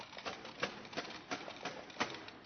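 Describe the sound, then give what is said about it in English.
Hooves of a company of Roman soldiers' horses galloping down a narrow lane clatter along in a quick, uneven rhythm, sharp thudding strikes of moderate loudness with no voices over them. “Everyone has had a bit of water to drink and bread to eat, and the many occupants of the little inn are finally settling down for the night when a company of Roman soldiers comes galloping down the narrow lane.”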